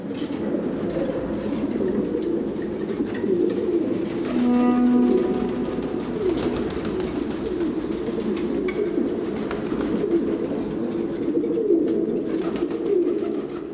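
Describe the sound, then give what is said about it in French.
A dense chorus of pigeons coos continuously, the low throaty calls overlapping into a steady murmur with no voices, with one brief higher tonal note near the middle. “Alors pour vous, un pigeon, c'est quoi ?”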